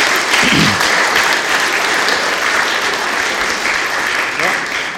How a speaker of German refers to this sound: Genau, mal Applaus für die Kleinen hier, auf jeden Fall, das finde ich auch.